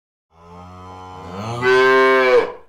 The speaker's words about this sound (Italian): Il verso della mucca.